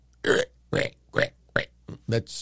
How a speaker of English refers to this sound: That sounds like a frog.